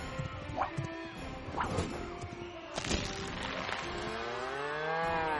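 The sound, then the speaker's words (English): A few sharp crashing thuds land over a busy background, then a long, loud cow moo swells up and carries through to the end, in a TaxSlayer advertisement about getting a guaranteed maximum tax refund. “Look at that sweet gula! That big old cash cow.”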